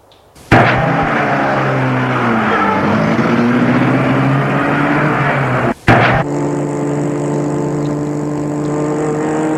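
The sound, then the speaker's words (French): A car engine starts up loud and accelerates hard, its pitch climbing before a quick gear change, then holds a steady, strong roar as the car speeds off. No one speaks. “Alors, vite, il prend sa voiture.”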